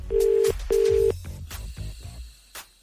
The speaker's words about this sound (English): Great ring on that phone, actually. It's a legal ring.